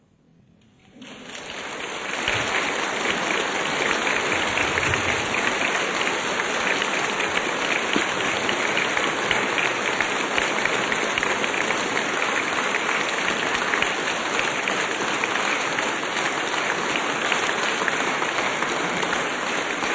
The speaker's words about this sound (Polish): Jeszcze zostawcie oklaski, bo jeszcze się przydadzą.